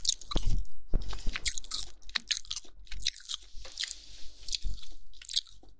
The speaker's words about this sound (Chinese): 接下来我要嚼喽。听我嚼，听到了吗？